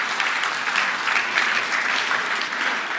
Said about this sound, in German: Also alle, die in diesem Kaffeeteam beim neuen Café ackern, steht doch mal bitte auf. Ja. Ihr seht, wow, und jetzt mal ein richtiger Applaus.